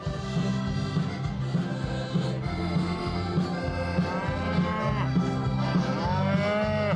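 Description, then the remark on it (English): Several cattle in petting pens along a main street moo loudly and almost continuously, their low, drawn-out calls overlapping, with a rising, wavering bellow near the end. Nobody speaks. “Along the main street, pens with animals for children to pet and feed. Cattle, sheep, and talking horses.”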